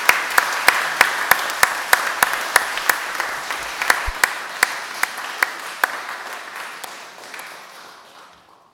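A church audience applauds steadily for a guest speaker, with dense clapping and a few sharp, louder claps standing out at a regular pace, the whole thing gradually thinning and fading out over about nine seconds.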